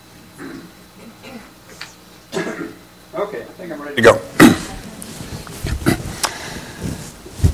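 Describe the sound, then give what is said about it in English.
Someone clears their throat: after a few quiet voiced murmurs, two loud, rasping bursts come in quick succession, followed by a stretch of rougher, scratchy vocal noises. “Let me get my voice cleared and I'll do that.”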